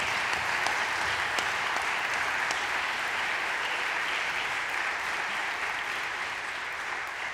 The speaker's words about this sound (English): I'm grateful too to our music department and the university choir. I want to say thank you to all of you. Yeah, applause for them as well, please.